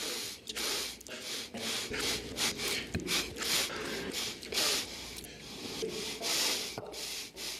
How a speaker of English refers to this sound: Someone put together a minute and a half of nothing but sniffing. Folks, you're thinking to yourself, that's not that much. Think of 90 seconds of what you're about to hear.